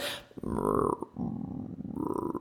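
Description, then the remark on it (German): A person voices a low, gurgling growl imitating rumbling bowel sounds, as demonstrated to patients, a continuous throaty rumble lasting a couple of seconds with wavering pitch. “Ja, und natürlich bedeutet es nicht jedes Mal, wenn man diese knurrenden Darmgeräusche hat, also dieses, ich mache das dann nochmal meinen Patienten vor, ja, damit bitte?”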